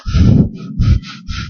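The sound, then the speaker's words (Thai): A person forcefully breathes in and out several times, heavy and huffing like someone angry, in a rough uneven rhythm, showing how breathing grows stronger when angry. The breaths are loud, with no talking. “ลมหายใจถ้ามันเปลี่ยนเราจะเริ่มรู้แล้วว่าจิตเริ่มไม่ปกติชัดๆเลยก็คือตอนที่โกรธนะโกรธเนี่ยหายใจจะแรงขึ้น”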